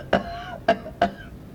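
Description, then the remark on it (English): Three short, harsh hacking coughs from Molly, a cat, coughing up a hairball, come in uneven succession, fairly loud, with nothing else around them and no talking. “Molly coughing up a hairball.”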